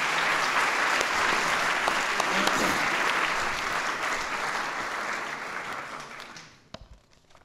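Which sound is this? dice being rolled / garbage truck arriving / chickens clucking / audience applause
audience applause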